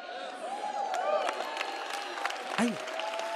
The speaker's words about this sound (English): I don't understand the applause. They're like, yeah.